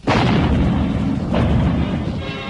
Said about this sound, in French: Et tandis que dans le boulevard du Palais, des SFI construisent un fortin en sac de sable, sur la place Saint-Michel et le long du boulevard, les canons sonnent violemment.